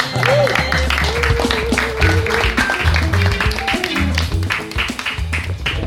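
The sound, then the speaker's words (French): An audience applauds steadily for several seconds, a dense wash of clapping with crowd voices and some tonal sounds mixed underneath. “Applaudir.”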